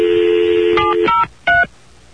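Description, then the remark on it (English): A steady telephone dial tone hums, then cuts off as a few quick keypad beeps sound clear, each a short two-pitched tone with brief gaps between them, as a call is placed on another phone line. “See, now I'm calling on the other line that's not crackly, and I better get the machine”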